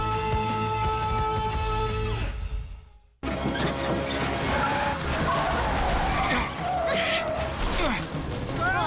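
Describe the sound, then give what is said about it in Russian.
A tune fades out, then a loud, continuous screech of a vehicle with broken brakes skidding fills the rest, tires squealing with rumbling noise and voices shouting over it. “Дело, тормоза сломались.”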